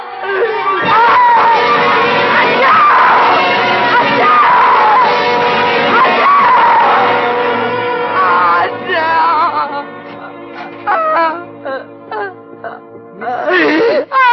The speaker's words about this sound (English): But then she went screaming out the door and towards the ceiling.